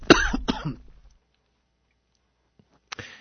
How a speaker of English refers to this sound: we'll give you a chance there to cough just a minute.